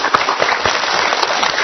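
Dense, steady applause from a crowd welcoming a guest, a continuous wash of many overlapping claps holding a fairly even loudness throughout, with no voices heard over it.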